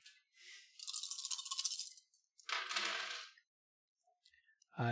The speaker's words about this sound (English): Roll charm plus graces, 5 dice.